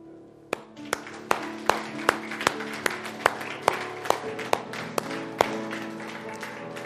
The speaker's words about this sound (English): God calls us to clap our hands. Is that crazy? Can we do that? Can we clap our hands to God in worship? Ready?